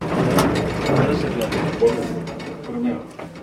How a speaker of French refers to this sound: Là, on rentre dans l'ascenseur? Dans l'ascenseur. Quand ça tape, ça réveille le quartier. Boum. Voilà.